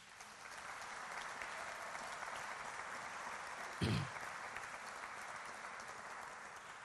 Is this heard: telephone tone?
no